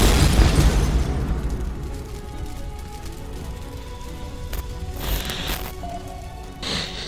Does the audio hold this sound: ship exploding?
yes